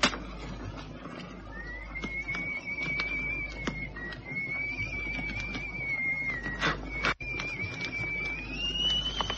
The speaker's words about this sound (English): Can you whistle? If it amuses you, sir.